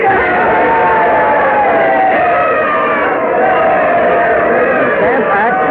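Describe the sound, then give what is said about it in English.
A large crowd cheers wildly while carrying George Mercer on their shoulders and parading him through the streets: a loud, sustained roar of many overlapping voices shouting and whooping without pause, with no single speaker standing out. “The crowd cheering wildly there while they're carrying George Mercer on their shoulders, parading him through the streets and he's laughing.”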